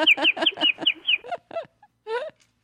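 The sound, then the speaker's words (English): A turkey gobbles in a rapid, rattling burst of repeated notes, followed by a few shorter separate calls and a final warbling call, clear with no voices. “Oh, pet bird, like a turkey.”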